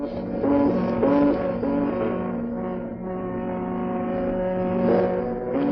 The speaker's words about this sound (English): And so is the hooting of the ships in the harbor of Liverpool and Merseyside and Hull.